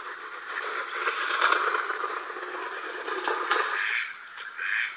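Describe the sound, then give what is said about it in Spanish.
A pair of mallards flies in noisily, following a stream, a steady stream of raspy quacks and wing rustle that swells and fades over a few seconds, moderately loud with no voices. “Una pareja de ranas azulones se acerca hasta aquí con gran estrépito.”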